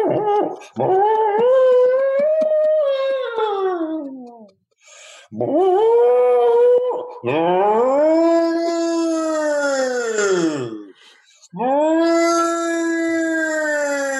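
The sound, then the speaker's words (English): A man's siren imitation: a voice imitates a wailing siren in four howling rises and falls, each swooping up in pitch and slowly sliding down, loud and sustained with short breaths between and no talking. “Well, first of all, … has an amazing siren thing he does.”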